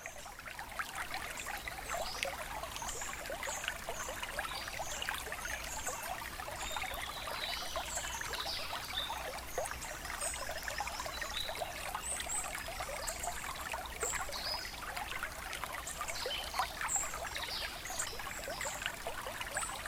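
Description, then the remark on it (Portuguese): A small mountain stream running alongside a walking path trickles and burbles steadily over stones, a continuous watery babble with bright splashing detail and no voices. “Fui até um riacho que contornava o nosso próprio caminho e encontrei o silêncio por lá.”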